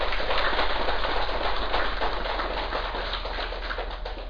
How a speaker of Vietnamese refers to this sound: Cho nên xin đại chúng vỗ một tràng pháo tay vỗ mừng cho mình.